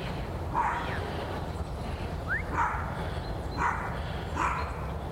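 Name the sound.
dog barking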